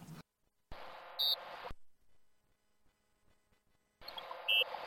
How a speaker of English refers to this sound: So if I place the card further away from me, so that it is in fact higher up, the visual image as it were, we should get a higher pitched beep, right?